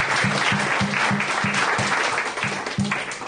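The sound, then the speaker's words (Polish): Loud, dense audience applause in tribute to the poet Czesław Miłosz fills the whole stretch, a steady wash of many hands clapping with a rhythmic low thumping underneath, easing off slightly toward the end. No one speaks. “Bimi więc głośne brawa dla niego. Tak głośne, żeby w niebie usłyszał.”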